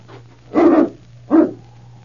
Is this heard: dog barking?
yes